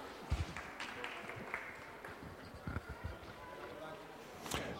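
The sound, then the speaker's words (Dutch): An audience applauds itself: a steady wash of many hands clapping, with a few louder thumps and faint voices mixed in. “Nou, applaus voor jezelf hoor, gemeente.”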